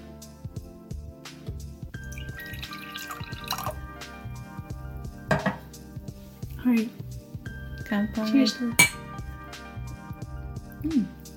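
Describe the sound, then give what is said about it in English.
A bottle cap twists open on a bottle of Suntory Boss Rainbow Mountain Blend coffee, a double espresso with milk and sugar. Liquid sounds follow: sloshing, pouring, and wet gulps of the room-temperature coffee being sipped, with soft tonal background sound underneath. “All right, let's do this ASMR. I'm gonna... I like the Suntory Black Coffee.”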